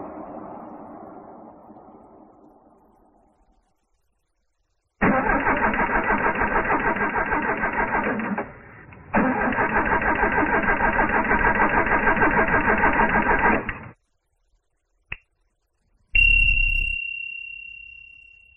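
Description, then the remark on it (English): A broken-down car's engine cranks and sputters loudly in two long attempts with a short pause between, failing to catch, then a sharp click and a brief whining, fading tone. “My car's broken down. Please help.”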